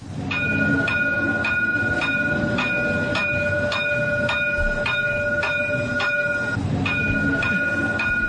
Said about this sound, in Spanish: Vamos a subirnos al tranvía, venga.